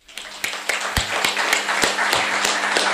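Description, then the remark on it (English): An audience at RNIB's annual general meeting applauds the charity's new chief executive steadily for the full three seconds, a dense wash of many hands with a few sharper individual claps standing out at a fairly even beat. No one speaks. “Thank you very much, Kevin, and thank you for your applause there.”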